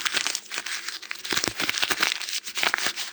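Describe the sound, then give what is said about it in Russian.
Dry twigs crack and snap very close by in a dense, irregular run of sharp crackles, with several louder snaps standing out over about three seconds. No voices. “Совсем рядом раздался треск сучьев.”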